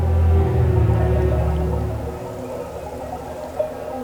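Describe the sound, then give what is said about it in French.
Bells of countless grazing herds, some 1000 to 1500 head, ring together from all directions around the Cirque d'Anéo in a diffuse, shimmering chorus, fuller at first and then thinning into a softer jangle across the open cirque of grassland and rock barriers. “Ça sonne de partout.”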